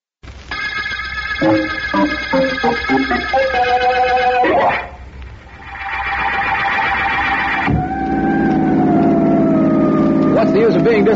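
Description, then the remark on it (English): A car siren wails loudly, its tones stepping and sliding up and down, dipping briefly midway before resuming in a steady, drawn-out howl. “I think this siren is a throwback to the days when I was a kid and wanted to be a fireman.”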